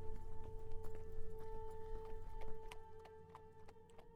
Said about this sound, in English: Brez mounts his horse and rides off inland towards the mountains.